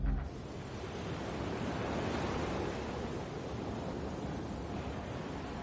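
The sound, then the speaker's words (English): At dawn, waves wash onto a beach in a steady, full roar of surf, with wind hissing over it and rustling seagrass. There are no voices, and the rush stays loud and unbroken throughout. “At dawn, waves crash on the beach. Wind rustles seagrass.”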